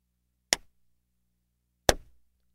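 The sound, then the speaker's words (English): Two sharp hand claps in a phonics game, given because both words "dancing deer" start with the sound D, evenly spaced with over a second of silence between them, each crisp and bright with a quick decay. No one speaks. “If both words start with the sound D, you clap twice.”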